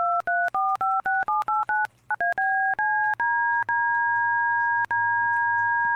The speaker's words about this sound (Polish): Ma kilka presetów do tonów DTMF. Trochę cisza, bo to się chyba przesterowuje.